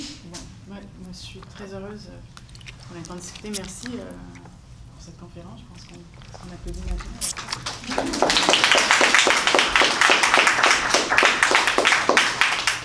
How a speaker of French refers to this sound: Merci pour cette conférence. Je pense qu'on applaudit ma vie.